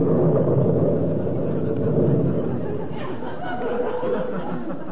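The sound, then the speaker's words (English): A loud, rolling thunderclap rumbles steadily for several seconds, deep and broad, with no sharp crack and no fading away before the end. “If I ain't telling the truth, may lightning strike...”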